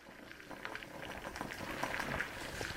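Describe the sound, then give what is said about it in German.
Water boils in a small glass beaker with a cube-sized piece of wood bouncing on the gas bubbles, in the wood research laboratory of the Thünen Institute in Hamburg-Bergedorf, giving a steady, dense stream of soft bubbling pops and crackles that grows slightly louder toward the end. No voices. “Im Labor des Thünen-Instituts für Holzforschung in Hamburg-Bergedorf wird ein gerade mal würfelgroßes Holzstück durchgekocht.”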